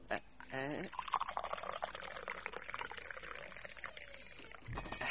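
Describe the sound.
Tea is poured steadily into a glass for several seconds, a continuous splashing stream, with a brief voice at the start and a bit of talk near the end.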